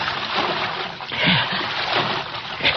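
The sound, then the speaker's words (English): Steady sloshing and splashing of feet wading through a creek in spotty moonlight, fairly loud, with rhythmic surges as each step pushes through the current. “He gotta wade the creek, even if it is full of cotton mouths.”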